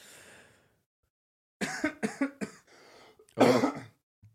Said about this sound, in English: Nervous coughing.